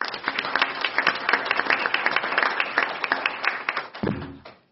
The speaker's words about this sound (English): and even though they're not in the room, I think that these distinguished alumni deserve a round of applause.